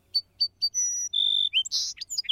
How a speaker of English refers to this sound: What's more, birds that live near each other sometimes have similar songs. If you visit one field with a few song sparrows, they often sound more like each other than a group of song sparrows living a few miles away.